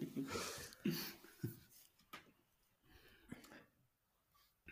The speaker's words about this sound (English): Sorry, I keep coughing.